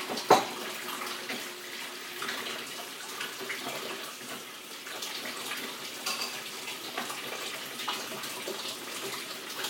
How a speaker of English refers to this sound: Excuse the water noise.